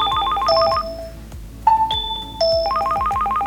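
A telephone rings in a telephone counselling service (Telefonseelsorge) office in Neuss city centre, with a bright, warbling electronic tone in repeated bursts separated by short pauses, clear with no talking.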